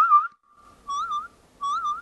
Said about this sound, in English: you can hold the iPhone in your hand and blow into the microphone to create whistle sounds.